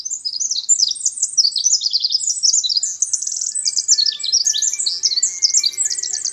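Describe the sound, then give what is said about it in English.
A Eurasian wren sings a long, rapid, high-pitched song, a nonstop torrent of sharp trills and tumbling notes delivered loudly and without pause, with no voices. “That Eurasian wren is closely related to the winter wren of the eastern United States and the Pacific wren of the Northwest.”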